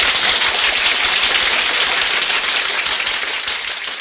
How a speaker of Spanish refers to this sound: Recibamos a nuestro invitado especial en este momento con un gran aplauso.